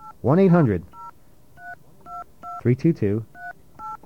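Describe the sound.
A rapid series of short touch-tone beeps, each a crisp dual-pitched blip, dialing a telephone number for a recorded information line, interrupted twice by brief bursts of a voice.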